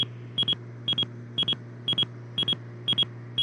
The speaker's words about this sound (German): Leute, warte mal, da ist unser Flugzeug gerade da, jetzt piepst es gerade. Schau doch alle mal raus und gucken, ob wir irgendwann ein Flugzeug sehen.